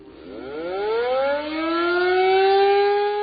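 A civil defense siren winds up, its pitch climbing steadily and then holding in a loud, sustained wail, with no voices over it.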